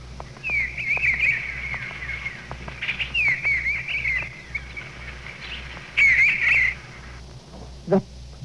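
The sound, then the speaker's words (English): A person whistles an imitation of an eastern bluebird's call: three bursts of soft, warbling trills, fairly clear, over a faint low hum, with a short sharp click near the end. “The brown thrasher. Eastern bluebird.”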